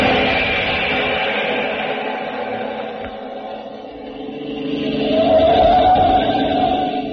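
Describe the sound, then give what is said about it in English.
The engine of a speeding staff car drones along in a steady hum with a whining tone, swelling louder and rising in pitch near the end. No one speaks. “Now back to the speeding staff car and Jungle Jim.”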